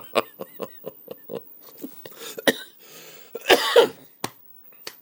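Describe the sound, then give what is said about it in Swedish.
A loud coughing fit from a person: a rapid string of short, sharp coughs followed by a few heavier, raspy hacks and a final sharp cough, with no talking. The person coughs whenever they talk and laugh. “Så fort jag pratar och skrattar så hostar jag.”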